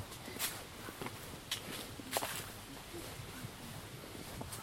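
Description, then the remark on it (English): Footsteps crunch through dry autumn leaves underfoot on a walk, a series of brittle crackles at an uneven walking pace over a soft, steady background hiss, with no talking. “You can hear the those crackling, the leaves underfoot here.”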